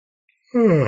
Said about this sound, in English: By the way, all the yawning and burping I'm doing is all energy movement. That's what shamans do. It gets noisy sometimes.